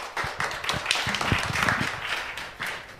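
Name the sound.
audience applause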